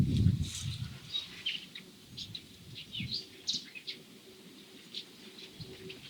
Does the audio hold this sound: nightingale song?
yes